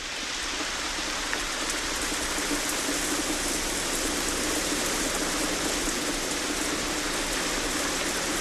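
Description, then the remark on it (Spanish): Steady, dense rain pours down continuously one morning on the Cerro del Rebote, a broad hissing wash of drops with no pauses or voices, fairly loud throughout. “Aquella mañana, todo era lluvia en el Cerro del Rebote.”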